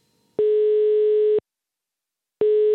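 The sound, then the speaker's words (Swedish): A telephone ringback tone heard while a call is being placed to Övels kloster: a steady, buzzy beep lasting about a second, a pause of silence, then the tone starting again. Clear, no voices. “innan vi börjar prata marknad så tänkte jag att vi ringer upp”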